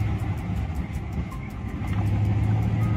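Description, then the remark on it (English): A car engine idles on a road in the evening with a steady, low rumble and a faint rhythmic ticking on top, holding an even level throughout with no voices. “And just like he said, there is an agent there in an unmarked car.”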